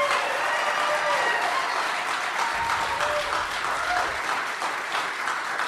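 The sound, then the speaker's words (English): Steady applause from an audience, many hands clapping together in a dense, continuous wash of sound that holds at an even, fairly loud level throughout, with no talking. “To our friends, our corporate friends at Dwell Bible, up in their ivory corporate tower somewhere having their business meetings, would you like to hear the three of us gentlemen reading for the Dwell Bible app? If so, let's clap it up.”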